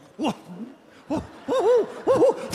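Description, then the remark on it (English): A voice imitates an owl with a series of warbling, rising-and-falling hoots: two short calls, then longer looping ones, fairly loud with no other talking. “and attacked him with his attack owl.”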